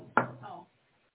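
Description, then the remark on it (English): A single sharp knock made by the speaker, fairly loud, a quick thud on a hard surface, followed by a brief low murmur before everything goes quiet. “Did I hear someone knock? I don't think so. That was me.”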